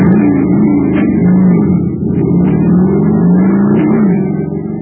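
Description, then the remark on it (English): A jet cycle filled with super fuel roars to life and revs steadily, a loud, continuous motor drone whose pitch rises and falls in waves, with brief sharp clicks over the top. “But pour in some super fuel, and you get a super start, like this.”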